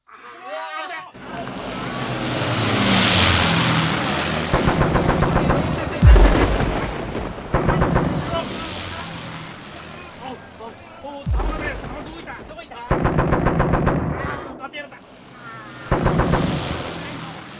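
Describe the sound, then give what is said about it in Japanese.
An Allied air raid on an airfield in Tunisia: roaring aircraft sweep overhead while rapid bursts of machine-gun fire rattle repeatedly and two heavy explosions boom, the whole scene loud and chaotic. “無事に到着して飛行機を降りた途端、連合軍が飛行場を空爆しました。”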